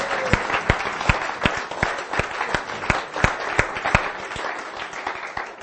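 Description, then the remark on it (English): A church audience breaks into steady applause, clapping for the Lord after a prayer of salvation, many hands clapping at once with sharper individual claps standing out in a dense, continuous patter that holds for several seconds at moderate loudness. “Give the Lord a clap on that one.”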